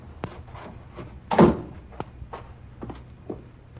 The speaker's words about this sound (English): That's the cellar door. Open it,